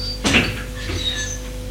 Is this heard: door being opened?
yes